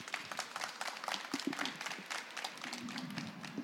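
Audience applause welcoming two guests who will read to trade fair visitors: many hands clapping in a dense, steady patter of sharp claps for several seconds, moderately loud with no voices over it.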